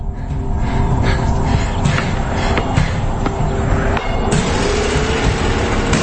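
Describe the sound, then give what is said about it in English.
A pickup truck engine rumbles loudly and steadily as the truck drives along a street where children are playing, with a rough, rattling road noise that carries on throughout. “He's on the streets in his truck.”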